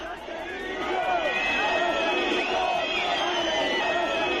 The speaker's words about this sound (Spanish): la pitada al presidente del gobierno socialista, un clásico. Y escuchamos también algún silbido al presidente del gobierno. ¿Algún silbido, dice?